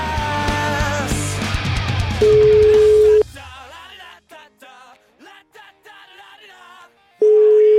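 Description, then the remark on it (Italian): A telephone ringing tone sounds loudly twice as a steady electronic beep, as a caller is phoned during a Radio 24 broadcast, following a busy burst of music, with a voice talking briefly between the rings. “Telefono.”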